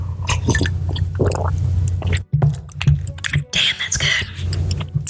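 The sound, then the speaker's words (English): Someone sips beer: a series of wet, irregular slurps, gulps and small clicks from the mouth and bottle, moderately loud over a steady low hum, with no talking. “I'm gonna take a sip of this beer.”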